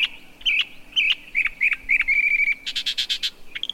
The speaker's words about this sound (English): Now compare it to the mockingbird's attempt at copying it. Tree frog? Mockingbird.